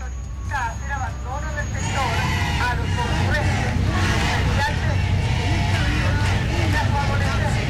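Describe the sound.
A heavy Carabineros police water cannon truck arrives in Santiago to remove people occupying a public road, with a loud, steady engine drone, while a crowd murmurs and voices call out over the din throughout.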